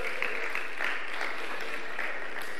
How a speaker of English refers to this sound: Hey, huge thanks to Todd, who I believe just ran an epic young adults camp over the weekend. So big clap to Todd.